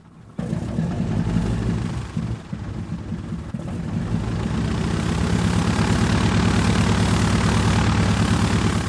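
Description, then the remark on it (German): A Junkers Ju 52 ('Tante Ju') propeller plane drones loudly in flight, its low, throbbing engine hum starting abruptly, wavering briefly, then settling into a steady, rough roar with no voices. “1931 ging die erste U-52 in den Betrieb und sie war sofort ein Riesenerfolg.”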